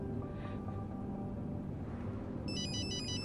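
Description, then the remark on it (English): A phone starts ringing with an incoming call, a bright electronic warbling ringtone that cuts in near the end over a steady low background hum. “the call's coming through.”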